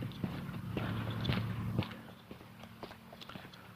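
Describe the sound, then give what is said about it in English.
Slow, unhurried footsteps of a man walking in the morning, each step a soft thud with a faint scuff, spaced irregularly over a low steady background hum. “If you're listening to the footsteps and thinking, geez, he's not moving very fast this morning.”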